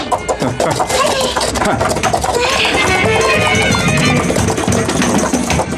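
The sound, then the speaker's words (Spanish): Arabian horses gallop at full speed across desert sand, their hoofbeats a fast, steady drumming that stays loud throughout, layered over a dense, busy wash of background noise. “Continúan la marcha. Esta vez a todo galope.”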